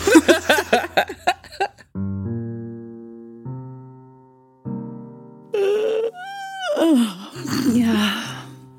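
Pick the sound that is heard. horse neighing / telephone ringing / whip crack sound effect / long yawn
long yawn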